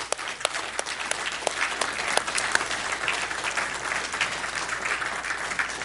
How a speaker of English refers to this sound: Men, would you give the ladies a round of applause for what they have done for us?